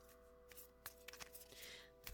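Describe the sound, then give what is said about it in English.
A deck of cards is shuffled for a card reading, with quick papery riffles and sharp flicks in an irregular rhythm, fairly quiet against a steady low hum and no one speaking. “Often I'll shuffle like this and one will jump right out when it's real obvious, but right now it doesn't seem like they're cooperating.”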